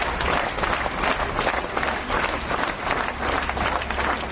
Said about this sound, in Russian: В последний путь Максимову провожали не из Большого театра, но из прилегающего к нему здания Атриума. Провожали, как принято у театральных людей, аплодисментами.